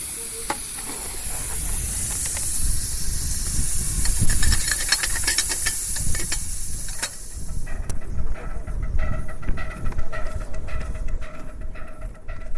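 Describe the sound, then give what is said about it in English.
A steam locomotive of a steam-powered train that children ride hisses loudly, a broad rushing jet of steam that fills the first half, then eases off, leaving lower mechanical rumbling and scattered clanks. “and running well, it is the steam-powered train that children love to ride.”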